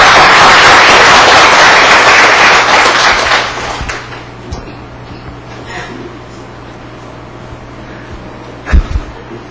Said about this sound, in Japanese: じゃあもう一度拍手を持って。